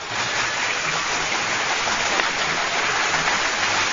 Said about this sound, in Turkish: Ve kocaman bir alkış gelsin mi ha babamlara?